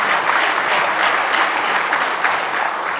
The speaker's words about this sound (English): Give him a good hand clap of praise this morning.